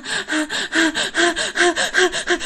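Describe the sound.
A voice imitates rapid gasping breaths, about eight sharp, raspy inhalations in a steady rhythm, fairly loud, with no talking.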